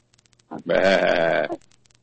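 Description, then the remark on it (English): A person gives one loud imitation of a sheep's bleat, a wavering nasal "baa" lasting about a second, with a few faint clicks before and after. “Did you just go bah like a sheep?”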